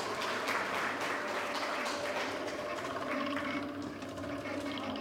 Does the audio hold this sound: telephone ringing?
no